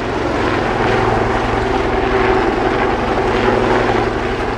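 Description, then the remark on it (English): A Lynx military helicopter drones loudly overhead above the River Thames in London during a security dress rehearsal for the Olympics, a steady churning engine roar with a low rhythmic rotor thump that holds constant throughout, with no voices. “With a Lynx helicopter flying overhead and fast response boats speeding along the river, this demonstration of firepower offered a glimpse into the security operation behind the Games.”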